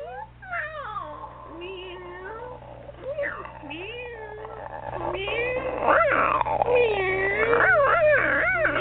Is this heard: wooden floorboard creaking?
no